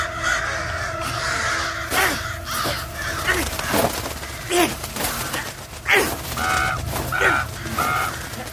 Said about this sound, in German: Und diese Krähen hacken auf ihn ein. Ich muss ihm helfen. Weg mit euch, ihr elenden Besten, weg!